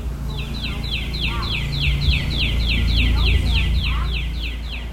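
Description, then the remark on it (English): Outdoor backyard ambience in Gulfport, Mississippi, with a bird singing a rapid, steady series of repeated descending chirps throughout, clear over a constant low rumble in the background. “I'm an avid bird watcher, and these are the sounds of my backyard.”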